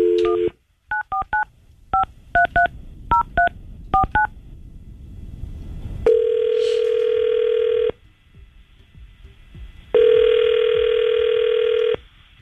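telephone dialing and ringing

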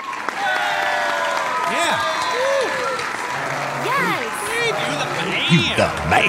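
applause sound effect

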